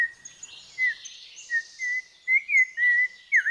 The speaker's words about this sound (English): The whistler behind this call bears the name of an even more famous student of American birds. It's Audubon's oriole. Audubon's oriole's halting song can be heard in the dense woodlands of South Texas, including the lower Rio Grande Valley.